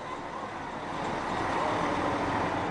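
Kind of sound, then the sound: vehicle, bus pulling away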